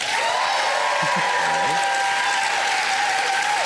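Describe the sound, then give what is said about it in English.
A crowd in the Vista Lounge claps loudly and steadily for a few seconds to vote for building a fort out of cake, a dense wash of applause with no pauses, a faint tone and murmur riding underneath. “By your applause, how many of you would build a fort out of cake?”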